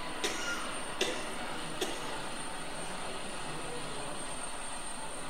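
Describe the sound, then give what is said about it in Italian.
A helicopter landing at night on 2 April at a floodlit sports field, its steady, dense engine and rotor roar filling the whole scene, with three sharp clicks in the first two seconds and no voices. “Vedete l'elicottero atterra al campo sportivo, ci sono i nostri mezzi dislocati da una parte.”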